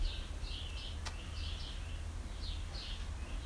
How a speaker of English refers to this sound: And in our practice, you know, we get those constant reminders too. And the bird calls.